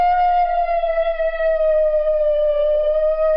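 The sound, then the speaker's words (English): A New Guinea singing dog lets out one long, haunting, siren-like howl, a steady high tone full of overtones that slowly dips in pitch, heard alone with no talking. “These dogs make this very haunting vocalization that's really unlike anything that we hear anywhere else.”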